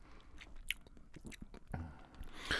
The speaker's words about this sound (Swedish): Vi ber om ursäkt för smaskande på förhand. Det blir lite grann så.